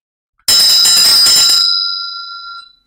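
A vajra bell is struck once, loud, with a bright metallic attack that settles into a clear, high ringing tone fading away over about two seconds, with no voices.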